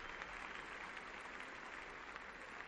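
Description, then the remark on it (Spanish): Sustained applause from a tennis crowd for Billie Jean King at a trophy presentation, a dense steady patter of many hands clapping at an even level for a few seconds without any talking. “Esos aplausos para Billie Jean King, que ha dado el nombre también a la división.”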